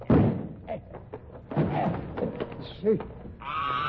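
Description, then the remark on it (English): Heavy thuds and a splintering crash as a locked door with a spring lock is busted in, loud, with short vocal sounds and voices mixed in around the impacts. “There's nothing for it but to bust in the door.”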